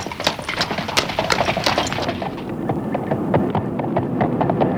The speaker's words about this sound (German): Hörst du die Vergangenheit? Ich höre nur Straßenbahnen. Und dahinter? Pferdehufe. Ja. Droschken.